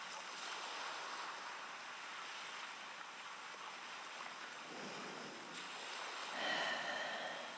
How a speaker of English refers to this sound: Perhaps you can hear the sound of the sea.